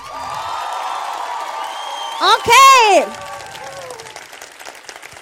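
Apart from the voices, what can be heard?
audience cheering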